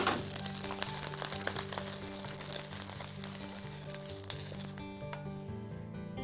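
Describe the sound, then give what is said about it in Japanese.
Gluten meat coated with potato starch sizzles steadily in a hot pan as it is pan-fried until crisp and browned, a continuous crackle and hiss lasting the whole stretch, with a soft musical tone underneath. “グルテンミートがカリッと焼き上がったら一旦お皿に取り出します。”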